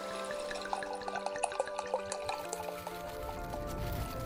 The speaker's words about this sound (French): Royan, 6h du matin. Je prends le départ dans ma voiture, dont le bruit du moteur semble rivaliser avec celui de la pluie. Battante. Encore beaucoup de nuages et d'humidité pour cette journée de mercredi.